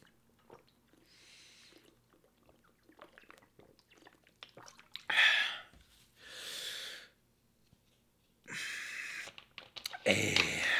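Quiet gulps and swallowing sounds of someone drinking water, followed by a few loud, breathy gasps of relief, one after another with short pauses between.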